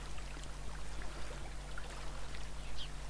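Soft, steady trickling of a distant stream in a forest, a quiet continuous babble with a low hum beneath and faint bird chirps scattered through it.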